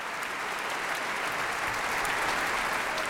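Sustained applause from a large concert audience for piano soloist Emmanuel X, dedicatee of John Williams' Concerto for Piano and Orchestra, after its performance: a dense, steady wash of clapping hands at even loudness throughout, with no voices standing out.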